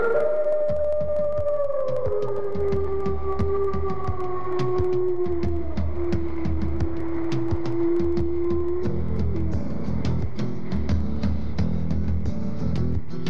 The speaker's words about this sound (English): At night they howl at the moon.